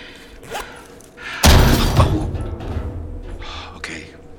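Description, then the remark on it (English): Furniture and garbage are knocked over in a sudden loud crash, followed by a couple of seconds of clattering, thudding debris and low rumbling that gradually settles. “Okay, luckily for me, Margie is leading the way and knocking over furniture and garbage apparently in the direction that she wants me to go.”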